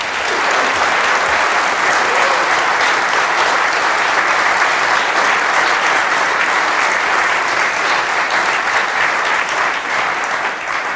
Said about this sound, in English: So will you give a great round of applause to Alistair and Brett?